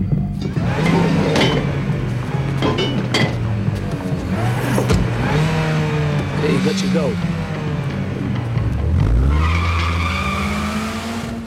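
The engine of Theron's Mini Cooper revs loudly up and down, with a high tire squeal and skid building near the end as the car tears off through a mock-up of a 6-foot-wide corridor.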